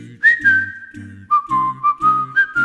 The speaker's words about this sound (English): When you're feeling in the dumps, don't be silly chumps. Just purse your lips and whistle, that's the thing.